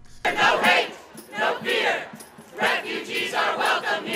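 A crowd of protesters at the gates of the White House shouts slogans against President Trump's executive order barring entry to nationals of seven countries, in loud, rhythmic bursts, voices swelling and dipping in repeated chanted phrases with brief gaps between them.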